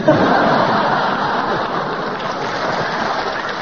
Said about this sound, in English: All right, Clement, the audience clapped, they enjoyed it, so we give you a bonus point because we enjoyed what you said.